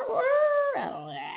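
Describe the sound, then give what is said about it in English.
A person imitates a rooster's crow: one drawn-out, steady, fairly loud voiced note that breaks downward, then a shorter, rougher trailing call. “My rooster voice is terrible, but some chickens.”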